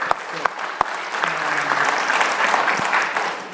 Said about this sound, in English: Yeah, we can do another applause.